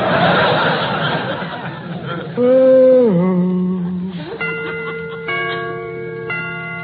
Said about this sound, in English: Got to remember to get them chimes made softer. No sense in letting the neighbors hear the time for nothing.